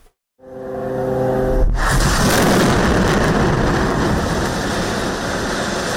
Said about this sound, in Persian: غرش جیت‌های جنگی اسرائیل و سپس صدای چندین انفجار. این وضعیت دیشب نیز در نوار غزه ادامه داشت.